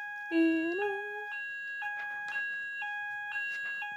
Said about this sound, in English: Very sorry about that. Fire alarm went off. We had to evacuate the building.